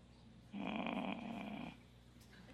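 A single low, drawn-out human groan lasting about a second from a person thinking during a quiz, voiced and slightly rough, with a quiet background before and after.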